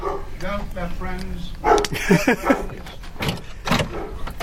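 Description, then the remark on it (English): A dog named Barley gives a few short barks in a quick cluster, with people talking around them and a busy indoor background. “Hello, dog.”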